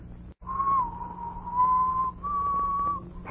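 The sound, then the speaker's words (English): Someone whistles the wedding march in three long, clear phrases that barely change pitch, almost a single note. The whistling is fairly loud over a low background hum, with no talking. “Well, I guess you never know from the sound of it, but that's the wedding march.”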